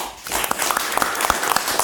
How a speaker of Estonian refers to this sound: Meiega olid täna Kaimar Karu, ettevõtja, endine IT ja väliskaubanduse minister. Aplaus!